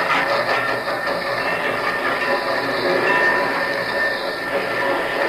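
A train rumbles steadily along the rails, a loud, continuous roar of wheels and carriages with a dense metallic hiss. It stays even throughout, and no one speaks.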